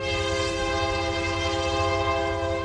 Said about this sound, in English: Flatonia happens to be where the Union Pacific's north-south line crosses the railroad company's east-west line. A lot of trains come through Flatonia, and to its amazement, train buffs have started showing up to watch.